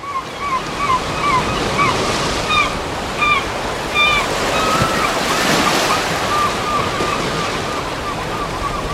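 Steady roar of sea waves washing onto the shore, with a swell in loudness midway, accompanied by scattered short high chirps of birds over the continuous surf.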